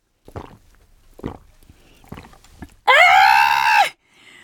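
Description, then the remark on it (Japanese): Four soft, evenly spaced gulps of Tokusen Yotsuba milk from a green and white package being swallowed after a bath, followed by a sudden loud, drawn-out, high-pitched satisfied vocal exhale lasting about a second. “この喉越しの音がもうピカイチよな、これビールで鍛えてるから、牛乳で鍛えてるって言いなさい、そこは牛乳でいつも鍛えてますからね。”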